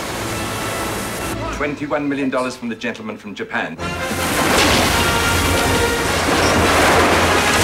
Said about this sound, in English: The partition falls over. Water rushes through the corridor.